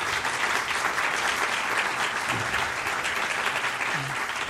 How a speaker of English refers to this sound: Well, let's have a great round of applause for our fantastic panel here.